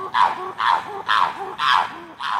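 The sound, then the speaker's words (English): Chimpanzee calls ring out in a steady rhythm, five loud, hoarse hooting barks about half a second apart, each with a rising pitch, echoing over the pine forests at Chimp Haven, a chimpanzee sanctuary in northern Louisiana. No one speaks. “If you go to northern Louisiana, you might hear some unusual sounds echoing over the pine forests.”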